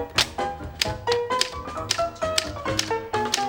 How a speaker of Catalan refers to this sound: En David comença a teclejar.